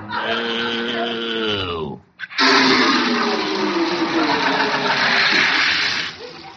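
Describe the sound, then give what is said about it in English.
A harmonic squealing tone, like a pipe whining, gives way after a brief pause to a loud, steady rush of running water for about four seconds before it abruptly cuts off. “We're out of water.”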